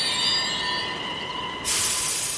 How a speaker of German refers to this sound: Bremsen quietschend hält die Bahn.